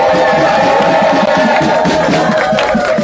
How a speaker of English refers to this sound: And I want to salute. Come on, let's cheer for our sisters.